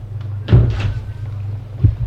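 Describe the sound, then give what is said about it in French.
The heavy door of Madame Fleury's apartment building opens with a low thud and a brief rattling scrape, then a second soft thump follows, all over a steady low hum. “Tout à coup, il entend la porte de l'immeuble de Madame Fleury s'ouvrir.”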